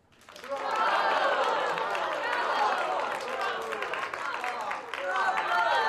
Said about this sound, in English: All right. Well, I'd like to have a hand of applause here in the studio.